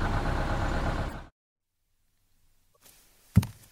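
A school bus engine rumbles loudly and steadily as it drives kittens back to school, then cuts off abruptly after about a second, leaving silence broken by a single soft thud.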